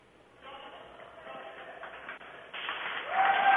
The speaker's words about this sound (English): They're giving him a clap. He's going to sit down and take a break.